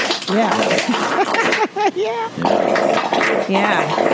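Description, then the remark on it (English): A voice makes a drawn-out, wobbling fart imitation, its pitch bending up and down for about two seconds, followed by noisy, breathy vocalizing that sounds like laughter or talk. “I wish you farted like that in front of him.”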